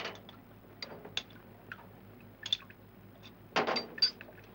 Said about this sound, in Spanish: Coge una taza y echa 3 cucharadas de café soluble derramándolo.